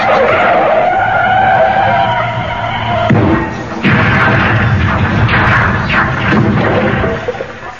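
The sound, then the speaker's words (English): A car's tyres screech loudly in a long skid, followed by further bursts of squealing and engine noise as the vehicle lurches to a halt. No one speaks. “Yes, well, I thought we'd get out the car first.”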